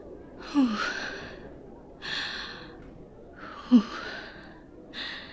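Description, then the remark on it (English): Audible breathing with no talking: about four heavy, sighing breaths drawn in and out at a steady, fairly slow pace, each separated by a short quiet pause, as a frightened, trapped person slows their breathing to avoid hyperventilating. “Thank you for helping me before I hyperventilate.”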